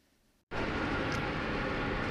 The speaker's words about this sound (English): And we're driving down the highway, talking into the new Olympus recorder with the stereo mic.